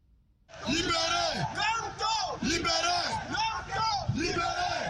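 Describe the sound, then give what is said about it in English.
Hundreds of opposition supporters shout and yell together in rising, chant-like bursts in Yaoundé city center on a Saturday, demanding the release of their jailed party leader; loud, many overlapping voices forming a continuous roar of protest. “Hundreds of supporters are shouting Saturday at the Yaoundé city center, demanding the immediate and unconditional release of opposition leader”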